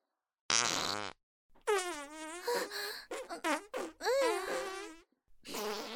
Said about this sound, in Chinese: 别再放了，臭死了，你的屁比我臭多了。你要是再放屁，那我也忍不了了。